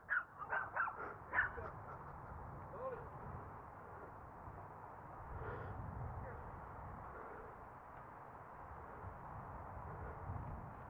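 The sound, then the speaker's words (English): A small dog lets out a quick burst of sharp, high-pitched barks in the first seconds, then goes quiet, leaving a steady outdoor background rumble. “Oh, there's a mini dog.”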